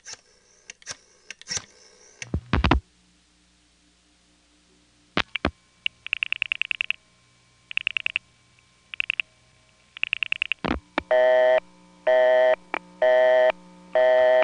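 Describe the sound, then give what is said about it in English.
A telephone busy signal on a home landline after dialing the party-line number 8536 from a second line: after a few clicks and clunks of a handset, a tone pulses on and off in a steady, even cadence, growing louder and harsher toward the end. “Busy.”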